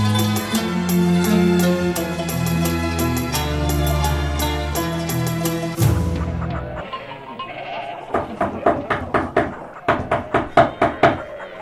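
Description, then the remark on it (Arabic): A series of sharp knocks in quick groups on the wooden door of the house of the Prophet, where Umm Salama lives, as Asma bint Umays knocks, following several seconds of sustained droning tones that fade away before the knocking begins. “الطارق باب رسول الله، السلام عليه.”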